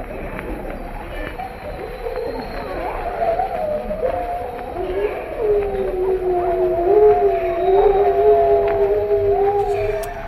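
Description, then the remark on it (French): Several Siberian wolves howl together in long, overlapping wavering tones that rise and fall, a sustained chorus heard outdoors with a faint hiss of ambient noise and no talking. “Voilà ces hurlements de loup de Sibérie glaçant.”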